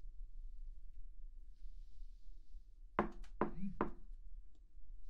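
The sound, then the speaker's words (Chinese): Three sharp knocks on a door in quick succession, fairly loud, against a low background hum and a faint high hiss; a visitor knocking at a friend's home door. “宝贝，我来了，开门吧。”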